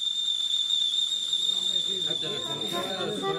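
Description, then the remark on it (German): A kettle whistles on one steady, piercing high note for the whole stretch, with bubbling water underneath and voices murmuring in the second half. “Der Wasser kocht.”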